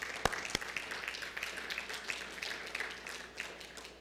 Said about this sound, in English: Yeah, amen. We clap for that.